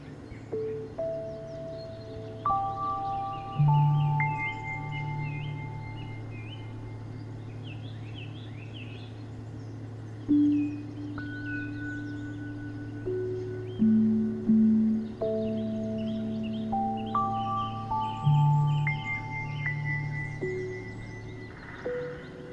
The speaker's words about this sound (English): Notice the different bird calls, the sounds of your steps.